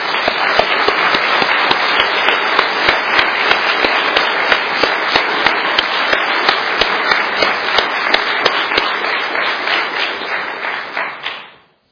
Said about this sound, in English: And I think at this time we ought to applaud and give the Lord a thank offering.